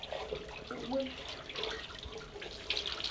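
running water

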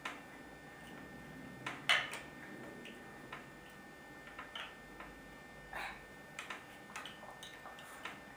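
clocks ticking

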